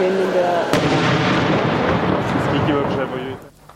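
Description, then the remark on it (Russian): Artillery shelling in the town of Chasiv Yar, 15 kilometres from Bakhmut: a sharp blast cracks out early, followed by a dense, continuous rumble of heavy booms and low roaring explosions that fade toward the end, with some voices faintly mixed in. “Там постоянные взрывы и обстрелы.”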